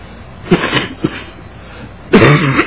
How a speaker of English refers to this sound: I apologize for the voice and the cough, but I've had the flu.